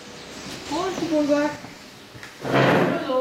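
The door to the office in a cow barn creaks open with a drawn-out, wavering squeal, followed after a short pause by a louder, rushing scrape as it swings wider. Fairly loud, with no one talking.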